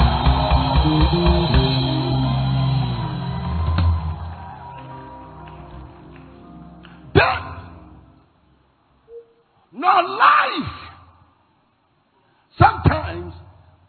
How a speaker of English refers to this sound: And I want you to scream like your voice is yours and pray.